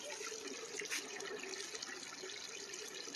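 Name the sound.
spring water running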